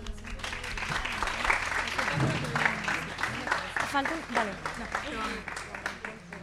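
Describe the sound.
An audience applauds steadily for several seconds, a dense, even wash of clapping with some voices murmuring and calling out underneath, welcoming three students from Murcia who prepared a manifesto for Women's Day (8M).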